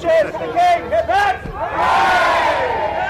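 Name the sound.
crowd cheering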